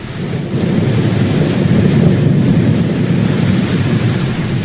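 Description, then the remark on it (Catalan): A rain and thunder sound effect: steady, dense rain hisses continuously, with a deep rolling rumble of thunder underneath. The sound is loud and even throughout, with no voices. “Això és pluja, eh, Bea? Trons, no n'hi ha?”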